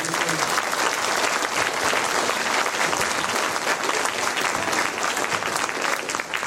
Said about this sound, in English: Let's all give a round of applause.